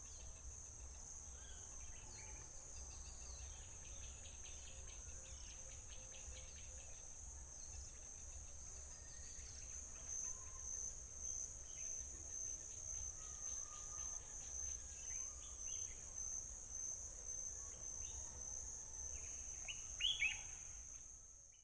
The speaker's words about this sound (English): Dag had spent the last night outside, in the garden, waiting for the birds to greet the morning with song